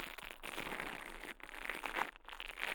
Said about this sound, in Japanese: ブラシ型の耳かきで、耳をマッサージしていきます。お耳の中で毛がパチパチと当たってくすぐったいですよね。